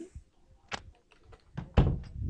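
A person pushes their own door shut, with a few soft knocks and shuffles before a heavier thud as it closes. Some low rumbling lingers afterward; no one speaks.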